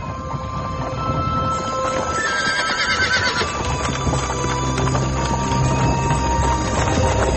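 horse-drawn carriage

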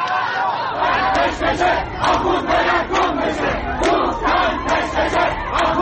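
street protest crowd

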